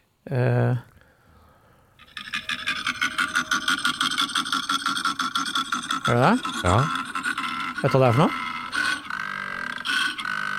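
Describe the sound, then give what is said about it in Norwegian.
A koala bellows, played from a mobile phone held up to a microphone, in a long run of deep, rattling, rhythmic grunts that pulse steadily like snoring and belching, with a few people speaking briefly over it. “Det en jævla koala.”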